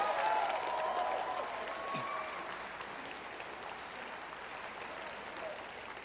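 An audience applauds those who are proud of their young people, a dense, steady wash of clapping that stays fairly even throughout, slightly fuller at the start, with a few brief whistles or cheers mixed in.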